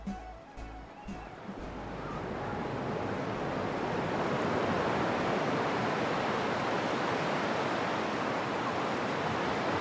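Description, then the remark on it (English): Steady roar of surf washing onto Downhill Strand, an expansive beach on the Causeway coast in Ireland, on a windy summer day, with wind buffeting the microphone and a few brief low thumps at the start before the broad, continuous rush of waves builds and holds. “Nothing like an expansive beach on a windy summer day, and it's really beautiful here, the downhill beach, downhill strand on the Causeway coast.”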